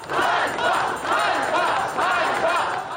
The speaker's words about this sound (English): The crowds chanted shame in a rare public challenge of Zelensky's leadership.